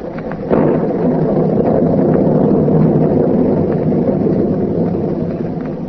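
A loud, steady roar of storm wind and surging sea waves that swells in suddenly after a brief moment and holds at a heavy, rumbling level throughout, with no voices.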